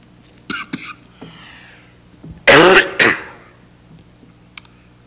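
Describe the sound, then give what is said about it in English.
A pastor clears his throat and coughs several times: a short raspy burst early on, then two loud, harsh hacking coughs in quick succession, followed by quiet pauses. “Like a pastor who can't stop coughing.”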